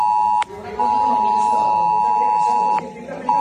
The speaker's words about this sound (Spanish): A las 12:45, 1:45, sonaba en los teléfonos la alarma de esa alerta.